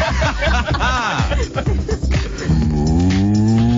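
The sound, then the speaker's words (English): Snickering laughter in short bursts gives way to a long, low, steady moo, a voice imitating a cow in answer to a request to make an animal noise, droning for over a second to the end. “What is that? That's a cow.”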